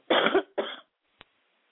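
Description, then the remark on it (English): Two harsh, loud coughs in quick succession, followed by a brief faint click in otherwise quiet surroundings. “excuse me, I'm trying not to cough so bad.”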